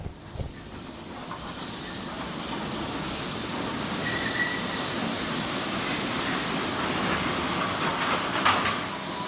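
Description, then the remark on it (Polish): A train rumbles along steadily with a thick roar of wheels on track as high metallic brake squeals rise over it while it brakes to a sudden stop. It stays loud throughout, with no voices. “Co się stało? Stoimy. W szczerym polu? Ktoś pociągnął za hamulec?”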